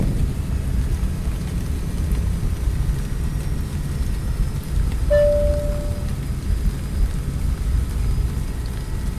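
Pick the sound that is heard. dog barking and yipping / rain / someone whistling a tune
rain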